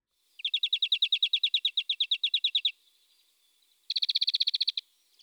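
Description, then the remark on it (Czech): A bird gives a rapid series of high, evenly spaced chirps for about two seconds, pauses, then fires off a second, faster burst, as birds fly in from all sides. Clear, with no talking. “Ze všech stran se počali sletovat ptáci, nikdo se však neodvážil blíž.”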